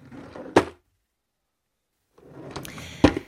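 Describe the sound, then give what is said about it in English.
A bedside drawer is pulled open and pushed shut as someone searches it for lube, with rummaging scrapes around each sharp wooden knock, separated by a few seconds of silence. “Bedside drawer?”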